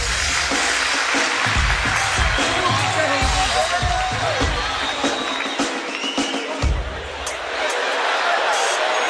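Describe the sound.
A live show audience applauds steadily for about nine seconds, a dense, loud wash of clapping mixed with cheers and a few whoops, with some indistinct voices underneath.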